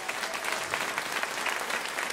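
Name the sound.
audience applauding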